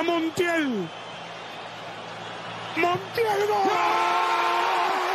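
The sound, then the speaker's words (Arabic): A big outdoor crowd of Argentine football fans roars and cheers in the Obelisco square in Buenos Aires, celebrating Argentina's World Cup win, with loud whoops and yells rising over a constant wash of voices and a sustained shouted chant near the end. “هكذا كانت الفرحة في قلب العاصمة الأرجنتينية في ساحة الأوبيليسكو.”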